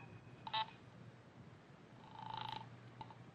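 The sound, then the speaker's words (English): Telephone line tones as an operator puts through a call to the police from a pay phone booth in Kramer's florist shop on 6th Street: a short sharp beep, a pause, then a longer buzzing tone and a faint click, all over a low steady hum. “Operator, get me the police.”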